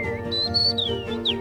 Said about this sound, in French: Il y a un cri de contact de rouge-gorge.